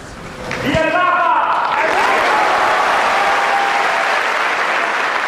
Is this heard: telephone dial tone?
no